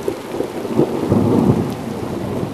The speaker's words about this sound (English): Thunderstorms roll across Arizona skies in July and August. The ponderosa pine forest evolved in a climate marked by these storms in summer and snow and cold winds in winter.